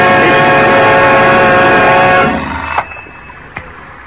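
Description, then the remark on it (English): A loud, steady electric ringing of an alarm clock with a bright, buzzy tone runs for about two seconds and then cuts off, followed by a couple of soft clicks in the quiet. “Turn it off, will you? Turn. The alarm.”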